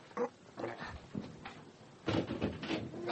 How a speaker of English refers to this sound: There's someone in that closet. Astonishing deduction, Lestrade. Stand back! He may be armed. Highly unlikely, or he wouldn't be thumping the door with his elbows.